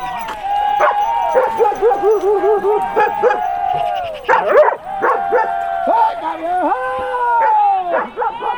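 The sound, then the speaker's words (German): A pack of hunting hounds bays and barks in an excited, overlapping chorus, loud, with drawn-out yowls and sharp yelps running continuously without a break, as the pack chases a fleeing wild boar at full speed through the undergrowth. “Die Hundemeute hetzt mit voller Geschwindigkeit durch das Unterholz.”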